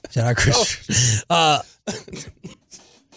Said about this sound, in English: I can't laugh at anything without coughing.